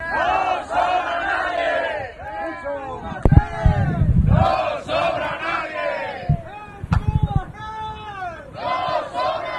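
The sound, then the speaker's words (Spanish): A large crowd of Tubacex workers, around 5:30 in the morning just before returning to work after a 236-day strike, chants and shouts together in loud, rhythmic bursts, many voices rising and falling in unison, with a few sharp claps or bangs punctuating the chanting. “Era el momento que grabábamos en la unidad móvil de Radio Euskadi, a eso de las 5:30 de la mañana, momentos previos a la vuelta por fin al trabajo de los trabajadores y trabajadoras de Tubacex, después de una huelga de 236 días, casi 8 meses”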